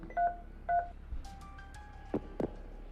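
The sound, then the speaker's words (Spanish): Two short electronic keypad beeps as a phone is dialed to call a law firm, followed by a few faint tones and a couple of soft clicks, without any talking. “¿podíais marcarme el teléfono del bufete de Calderón, Cutiño y Fondiño?”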